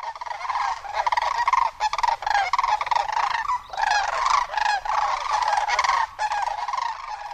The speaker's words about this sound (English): Sandhill cranes announce spring has arrived with their resonant trumpeting in the sky and loud unison calls on the ground. The arrival of Homer's most charismatic and iconic bird, the lesser sandhill crane, happens on average April 12th.